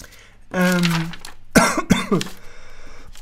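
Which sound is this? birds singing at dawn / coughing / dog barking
coughing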